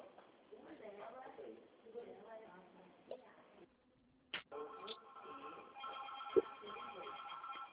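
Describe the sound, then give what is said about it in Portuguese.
A telephone rings with a steady, layered electronic tone in the second half, following a stretch of people talking. A couple of sharp clicks come just before the ringing begins. “Vê o seu telefone,”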